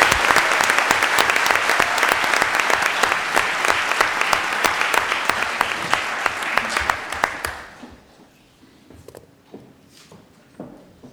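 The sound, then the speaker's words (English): Steady audience applause for students who got a perfect score on the New Jersey ACE test, a dense wash of clapping hands that holds strong for about seven seconds, then fades quickly to a few scattered claps and near quiet. “So prior to me distributing them, could we have a round of applause for them?”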